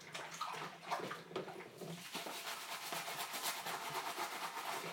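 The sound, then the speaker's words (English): Running water pours steadily into a container to wash it out after leftovers were tipped into the food waste, a broad hiss with bubbly sloshing that builds and stays constant after the first couple of seconds. No one speaks. “It was mine, so I'm going to tip that in the food waste and wash that out while I remember.”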